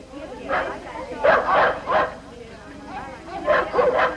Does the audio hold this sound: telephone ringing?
no